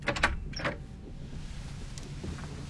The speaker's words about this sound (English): The lift doors close.